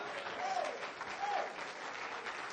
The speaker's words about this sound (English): Let's stand together. Let's clap our hands. Somebody lift up a voice. Praise God.